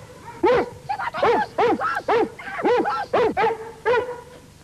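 A dog named Kópé barks loudly at a visitor, a rapid run of about eight sharp barks in an uneven rhythm, with no one talking over them.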